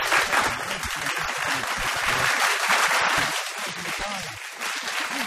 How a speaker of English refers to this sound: Canned applause, if you could,